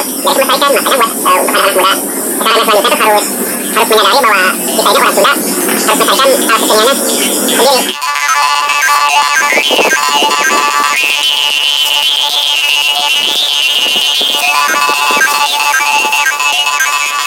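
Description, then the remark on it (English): A traditional West Javanese instrument called Karimin plays loudly and continuously, first with dense, buzzy pulsing tones, then shifting midway to brighter sustained notes with a reedy, droning edge. No one speaks. “So listen up, there was a grand traditional instrument from West Java called Karimin.”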